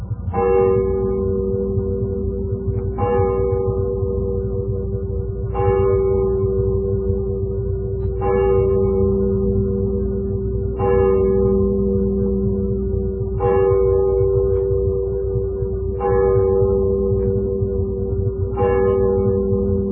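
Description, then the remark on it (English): A church clock bell down in the valley strikes midnight, tolling slowly and steadily, eight evenly spaced strikes about two and a half seconds apart, each ringing on with a rich, humming resonance and no voices. “And then down in the valley, the church clock began to strike.”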